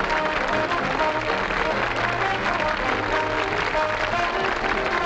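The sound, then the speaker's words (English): A nightclub audience applauds after a stage show, Duran among them, with steady, dense clapping that stays loud and even for the full five seconds, many hands blending into a continuous wash and a faint murmur beneath. “Duran smiles and claps.”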